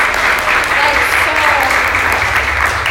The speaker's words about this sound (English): Everybody, we need to give him a round of applause.